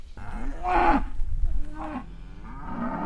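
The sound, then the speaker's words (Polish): Cows moo in two or three drawn-out calls, one loud and low with a rising pitch, then a shorter call, over a steady outdoor background. “Cielęta są cały czas przy matkach, co jest dla nich super.”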